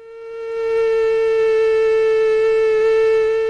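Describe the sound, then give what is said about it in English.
A female Aedes aegypti mosquito's wingbeats at about 400 hertz, 400 times a second, make a loud, steady, high-pitched whine with a rich buzzy tone, swelling in over the first second and then holding unbroken, with no talking. “Have a listen to the female mosquito, and these are Aedes aegypti mosquitoes.”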